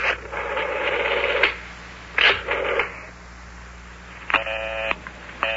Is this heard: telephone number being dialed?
yes